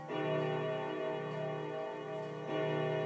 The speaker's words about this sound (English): Thank you, clock. I'll wait for that to stop and then I'll pause this again and come back when I know more.